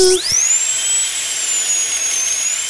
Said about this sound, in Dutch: Maar weet je wat ik het vervelendste vind? Nee. Het geluid van de boor. Want de tandarts heeft een heel hard geluid voor de boor. Dat gaat zo.